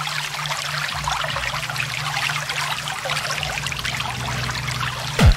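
Steady flowing water, which must be crossed by boat, rushes and trickles continuously over a faint low hum, ending with a brief rising swoosh. No one speaks.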